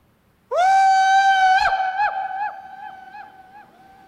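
A loud, sustained shout rings out in a vast hallway, then bounces back as a series of quick, evenly spaced echoes that grow fainter with each repeat.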